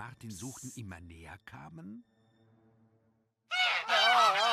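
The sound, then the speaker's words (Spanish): Geese honk loudly in a noisy, overlapping burst near the end, after a stretch of harsh nasal calls and a brief quiet pause. “los gansos comenzaron a hacer tanto ruido, que enseguida le encontraron.”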